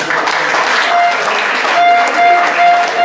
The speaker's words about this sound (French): Je vous remercie, on peut applaudir.